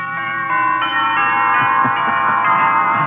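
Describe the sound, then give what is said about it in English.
A peal of wedding bells rings out steadily and fairly loud, overlapping tones chiming in a continuous celebratory clamor with no voices. “Wedding bells.”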